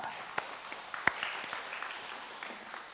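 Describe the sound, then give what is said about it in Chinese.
A crowd applauds with dense, steady clapping, a few sharper individual claps standing out early on before the sound settles into an even wash. “哇、哦啊，感谢主，这么多，我们给自己一个鼓掌好不好？”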